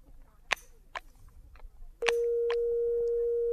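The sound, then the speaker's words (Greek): A few sharp clicks, like a receiver being handled, then a loud, steady telephone busy signal from a line the operator has redialed: a low hum-like tone that holds without a break to the end. “Η γραμμή Μάρι Χιλ 4098 είναι κατηλημένη, κυρία μου.”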